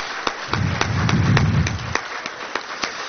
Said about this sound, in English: And that will conclude our candidate forum. If you would join me in a round of applause for all of our fine candidates.